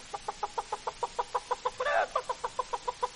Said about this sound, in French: Ah, nous avons aussi la poule. Ah, la poule.